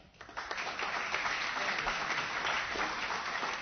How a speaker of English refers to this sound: Clap if you believe that.